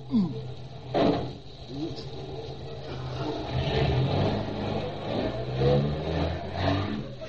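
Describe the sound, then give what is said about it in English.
A car engine revs and surges repeatedly, its pitch rising and falling in uneven bursts as the car backs up before driving up a gangplank onto a ferry boat, with a steady low rumble underneath. “Now you just back her up a little.”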